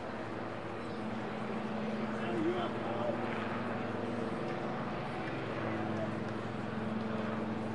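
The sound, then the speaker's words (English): A steady, loud helicopter drone with a low, throbbing engine hum sits over a wide wash of noise, holding at a constant level for several seconds as it flies over Arvis Ballpark during a baseball game, coming from the Children's Hospital across the street beyond center field. “Helicopter flies over the top of us here at Arvis Ballpark from the Children's Hospital across the street beyond center field.”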